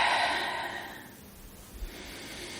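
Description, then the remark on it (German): A deep, airy breath drawn in through the nose during a breathing exercise, loud at first, then tapering off into quiet after about a second. No one speaks. “Nehmt einmal einen ganz tiefen Atemzug durch die Nase.”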